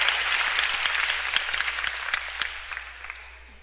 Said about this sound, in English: 15 people clapped on that one.